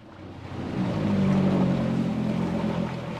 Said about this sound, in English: The boat ride through Tyrifjorden Lake takes less than 10 minutes to reach the dock of Utøya Island.